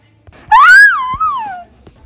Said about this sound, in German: Noch so ein Schrei?